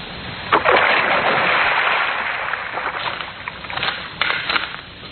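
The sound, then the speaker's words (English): A woman's body is dumped into a river: a heavy splash hits the water about half a second in, followed by several seconds of loud churning, rushing water that slowly settles, with no voices. “Now, into the drink she goes.”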